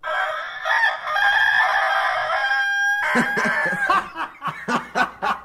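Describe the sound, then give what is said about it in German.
A rooster crows loudly, a long drawn-out call lasting about three seconds, followed by a rapid series of clucking, cackling bursts. “Ob diese Schurken dem Hahn Schnaps gegeben haben?”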